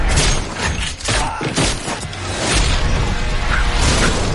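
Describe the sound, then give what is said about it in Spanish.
A loud, chaotic stretch of rapid slaps, hits and smacks with swishing whooshes from a fight scene in a film, dense and continuous, with no clear speech over it. “Vaya somanta de bofetadas.”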